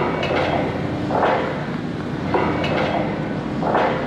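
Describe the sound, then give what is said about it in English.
Dense, steady roar of heavy industrial machinery at an SRC Energy site preparing a well for hydraulic fracturing (fracking), with a rhythmic whooshing surge about every second and a half and occasional sharp metallic clanks, loud throughout with no voices. “We went to a site preparing a well for hydraulic fracturing, also known as fracking.”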